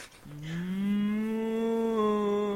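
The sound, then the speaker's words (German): A person imitates the bull Pokémon Tauros with one long, loud, sustained lowing call that starts abruptly and holds steady for over two seconds. “Okay, das war ein Taurus auf Droge.”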